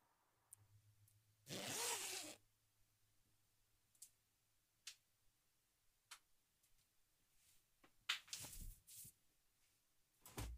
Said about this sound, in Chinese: 至少先帮我把拉链解开吧。喂，手往哪儿摸呢？拉链在哪儿都不知道吗？